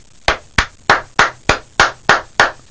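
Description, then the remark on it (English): Eight hard, loud hand claps in a steady, even rhythm, each one a sharp smack with a brief ringing tail, given on a radio show to congratulate Jimmy Wenzel on over 40 years of service at the Stone Quarry in Stafford; harder than a golf clap. No voices are heard. “That was harder than a golf clap.”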